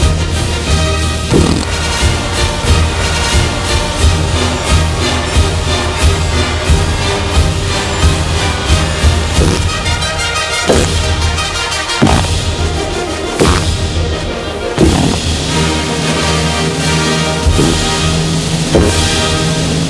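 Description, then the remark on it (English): A man breaks wind on command in a loud, nonstop run of fart noises, one blast after another with sharp booming bursts scattered throughout, packed densely over a steady droning background and no talking. “his other incredible ability is the ability to break wind on command.”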